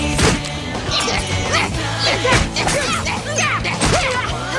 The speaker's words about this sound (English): Okay, we don't have time to unwrap, so let's just start smashing!